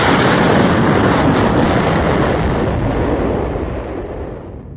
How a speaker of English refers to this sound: A thunder like he had never known, and a howling wind driving stone and metal roared past, rocking the wrecked vehicle.